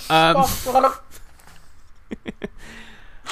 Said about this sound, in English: …'s choking to death. Why would you say that as I took a swing of water?